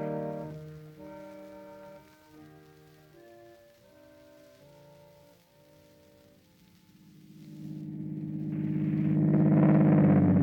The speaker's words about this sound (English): I got up and went over to the car and drove off.